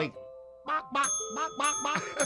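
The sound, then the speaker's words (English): Tiny bells attached to roosters jingle and ring with bright, lingering tones, each bell a different tone, struck several times in quick succession while voices sound alongside them, moderately loud. “Zeb got a set of tiny bells and attached them to his roosters”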